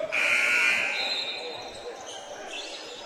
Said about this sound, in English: a crossover dribble at half court, works her way into the lane,